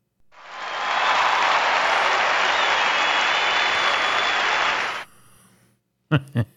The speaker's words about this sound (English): I can hear men cheering and applauding across the globe that listen to this program.